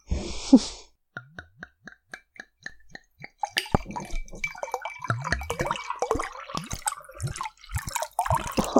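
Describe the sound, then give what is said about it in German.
Non-carbonated iced tea is poured from a bottle: a short burst, then a run of quick, regular glugs that gradually shift in pitch, giving way to a steady, splashing pour that fills the rest. “Flup, flup, flup. Flup, flup, flup, ja.”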